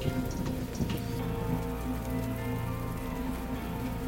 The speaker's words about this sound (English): But as I float through, I'll continue to rain on the plant life below me.